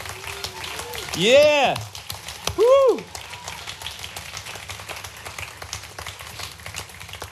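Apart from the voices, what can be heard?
audience applause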